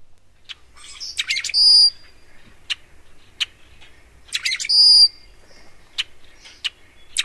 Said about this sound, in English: We had a clip of a rusty blackbird. I think we're going to go see if we can hear that one now.